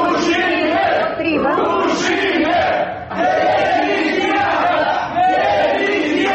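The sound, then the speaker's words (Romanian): Members of an initiative group leave the hall of the CEC (electoral commission) after its decision, shouting angrily in unison, chanting 'shame' and calling for resignation. The dense, loud wall of voices rises in repeated bursts with brief dips between chants. “Ei au încercat să respingă prin argumente constatările CEC, ulterior au părăsit sala strigând rușine și demisia.”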